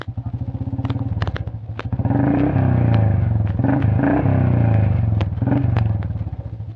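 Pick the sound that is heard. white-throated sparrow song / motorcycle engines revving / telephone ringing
motorcycle engines revving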